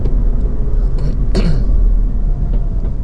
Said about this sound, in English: Now I'm driving toward the park.